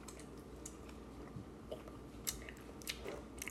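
Someone chomps on hard candy during a candy flavor tasting, producing irregular crisp crunches and clicks over a low steady hum, fairly quiet overall, with no talking.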